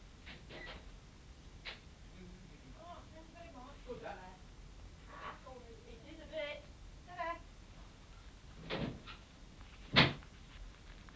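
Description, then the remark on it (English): A man knocks on a door: a few scattered knocks, mostly muffled and soft, with one sharper, louder rap near the end; quiet voices murmur in the background between them. “That's a fella's knock.”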